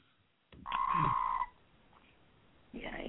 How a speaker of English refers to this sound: That's a loud frog. Since that frog. The frog was talking to you. He was like, get out of my backyard. It's my backyard. I'm sleeping.